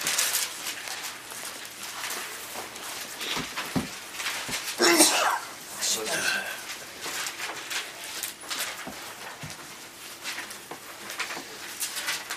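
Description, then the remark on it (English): A single sharp sneeze bursts out partway through, loud, over a noisy background with scattered rustles and faint chatter. “Bless you.”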